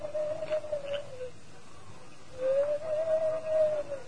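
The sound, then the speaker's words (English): Two long, steady hoots with a slight rise and fall in pitch, the second longer than the first, made by a voice imitating an owl over low background hiss, the masked man's signal to Tonto. “That's the hoot of an owl.”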